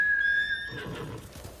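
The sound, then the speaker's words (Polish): In a video game, the player's white horse Nobu neighs with a high, steady whinny lasting over half a second, then softer, scuffing hoof-like thuds and snorting follow. No one speaks. “Wydawało mi się, że powinien być z drugiej strony, ale niech będzie. No to siadaj. Dobry z ciebie koń, Nobu.”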